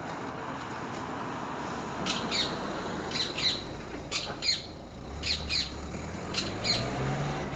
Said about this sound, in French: J'entends un oiseau, j'avais envie de l'enregistrer. Attends, écoute.